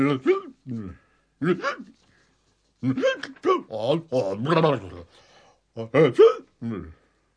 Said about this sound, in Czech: Jenomže až za chvíli Hrombác začal strašlivě škytat.